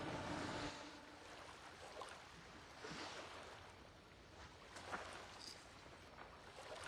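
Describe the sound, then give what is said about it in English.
Steady wash of ocean water and surf around a small boat, with gusts of wind and occasional splashes slapping. No voices, just continuous water noise throughout. “That cruise ship's almost out of range of your boat.”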